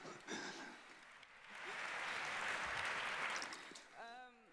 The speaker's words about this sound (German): Applaus im Saal.